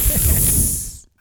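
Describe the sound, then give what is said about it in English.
A voice lets out a single loud, breathy hiss lasting about a second, imitating a creature, sharp and sibilant before cutting off abruptly. “I want to hiss back at it.”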